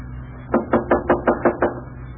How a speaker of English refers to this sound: Knock on the door.